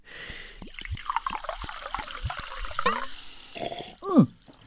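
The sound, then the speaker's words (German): Sparkling water splashes and fizzes as it is poured, a busy stream of bubbly, crackling liquid with gurgles and a rising glug near the end, no voices. “Das ist ja Sprudel. So was Lautes, so aufdringlich.”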